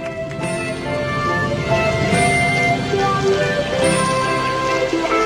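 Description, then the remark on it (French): Steady rain patters on a roof, a dense, continuous crackle of drops, with faint ringing tones and a low rumble underneath and no one speaking. “Quelle bonne idée d'avoir fait du feu, qu'on est bien quand il pleut, avec une bonne discothèque, bien au sec, tous les deux. Ça clapote sur le toit, dom dom dom, dans la rue, les bons hommes ont l'air de sortir du bain”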